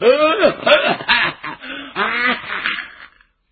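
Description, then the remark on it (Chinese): A male storyteller's voice imitates the violent coughing fit of a sick old man: a run of strained, wheezing hacks and throaty bursts, loud, over about three seconds before trailing off. “又咳嗽不止，憋的是脸红脖子粗”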